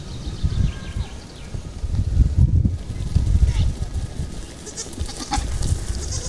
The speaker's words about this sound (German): Hört ihr das? Hört ihr das Trappeln der Ziegenhufe?